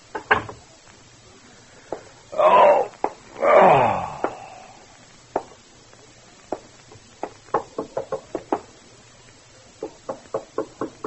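Sharp knocks on the front door of an apartment, a couple at first, then after a drawn-out creaking moan a steady, insistent run of loud raps continuing to the end. No one speaks.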